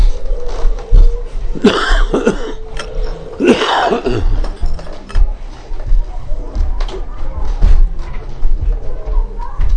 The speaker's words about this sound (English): I cough at night. You cough and cough and cough and cough till the phlegm comes out.